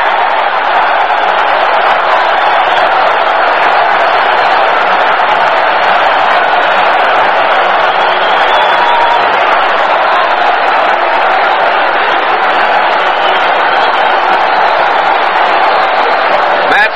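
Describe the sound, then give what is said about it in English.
A football stadium crowd roars and cheers after Snell's New York touchdown from 4.5 yards out, ending an 80-yard drive, a loud, steady wall of massed voices that holds for the whole stretch without letting up. “Touchdown, New York. And listen to this crowd.”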